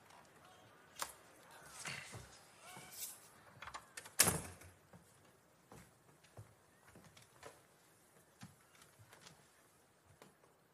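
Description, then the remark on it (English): A door is pushed shut with a single solid thud, preceded by soft handling clicks and followed by faint shuffling and light knocks. “Close the door.”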